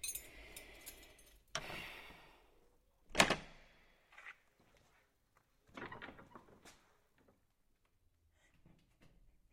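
A door is opened, with a sharp latch clunk and a louder knock of wood, followed by quieter scraping and shuffling movements fading into near silence.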